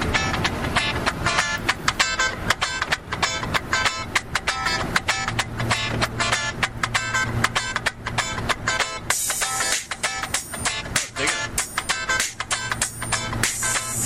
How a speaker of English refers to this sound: They have some pretty nice beats. I can give you a little preview.